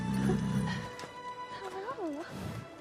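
A horse lets out a short, wavering whinny amid a few soft hoof clops and shuffling as a man mounts it, against a low background rumble.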